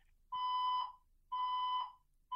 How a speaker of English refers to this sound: I mean, I start talking about romance, the fire alarm goes off. I mean, you live in the Poke and Beans. It's unbelievable. Your fire alarm goes off once a week.